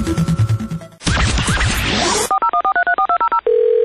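A quick run of about a dozen short telephone keypad beeps, evenly spaced and clear, follows a burst of noisy clatter and ends in a steady tone.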